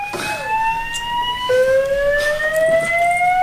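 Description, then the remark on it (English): A building fire alarm, pulled by someone during a post-game press conference, blares loudly and continuously, its electronic tone gliding slowly upward in pitch before dropping back and climbing again, with no one speaking over it. “Somebody pulled the fire alarm.”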